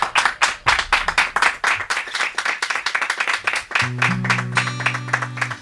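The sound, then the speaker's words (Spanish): A studio audience claps steadily for a singer about to perform, many hands creating a dense, lively wave of applause. Toward the end, sustained musical notes begin to sound beneath the clapping. “¡Un aplauso para él!”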